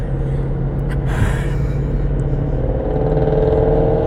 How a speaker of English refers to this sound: And there goes that that sports car.